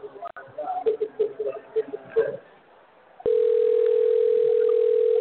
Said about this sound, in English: I can hear phone ringing in my ear.